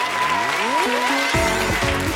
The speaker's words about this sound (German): Einen ganz, ganz großen Applaus